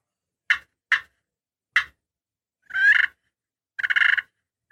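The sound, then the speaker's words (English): Three sharp, deep clucks from a bigger, louder turkey call, spaced apart, followed by two longer, rolling purrs with a ringing tone; loud with no talking. “It's a bigger call. It's a little more volume. Again, you can get really low with it, but it's got a different sound too. A little deeper clucks.”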